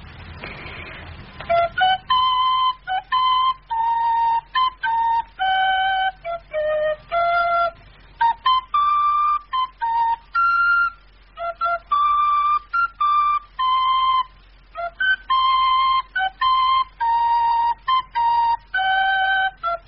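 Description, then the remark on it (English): A short tune from a snatch of written music is whistled in clear, bright notes, a quick string of brief pitches with small gaps, steady in loudness, with no talking. “I've heard it being whistled”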